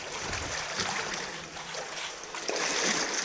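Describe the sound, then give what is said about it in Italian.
Continuous sloshing and splashing of water as a person crawls through a flooded cave passage with only a few centimetres of air to breathe, a steady wash of noise and a louder surge near the end. No one speaks. “E qui, questo è un altro tratto molto impegnativo della cavità, perché anziché strisciare sul fianco in piedi, bisogna strisciare nell'acqua con pochi centimetri d'aria per poter respirare.”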